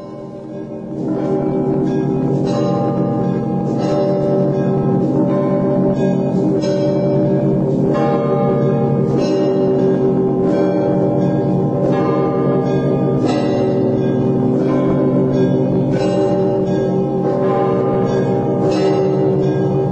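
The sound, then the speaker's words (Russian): A full peal of church bells rings continuously, several bells of different pitches, including a small bell, overlapping in a dense, loud, rhythmic clangor that swells in after a brief start and keeps going. “Подается маленький колокол, и следующий такт уже пошли опять.”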